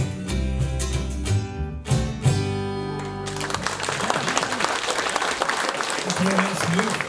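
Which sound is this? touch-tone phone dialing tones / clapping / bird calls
clapping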